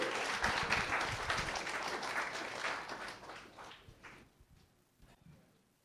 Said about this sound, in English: Team IoT, give a round of applause.